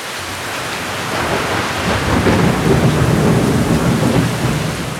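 Steady heavy rain hisses throughout while a deep roll of thunder swells up from the background and rumbles on, loud and continuous, with no voices.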